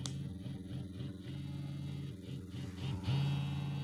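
A vibrator's steady low motorized buzz pulses in a repeating on-off pattern as its vibration pattern changes, then shifts around three seconds into a louder, constant higher-pitched hum. No one speaks.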